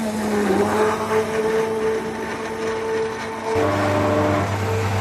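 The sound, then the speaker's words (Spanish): A heavy industrial mixer or dough kneader at a pastry shop in the Os Mayos neighbourhood of A Coruña drones steadily, a low motor hum with a whining tonal band above it that shifts pitch slightly, then deepens and grows louder near the end. No one speaks. “Así suenan una batidora o una amasadora industrial.”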